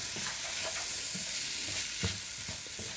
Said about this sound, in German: Und alles schön umrühren. Jetzt tun wir das noch so ein bisschen anbraten mit dem Reis. Und da die Geschmäcker mal schön reinkommen.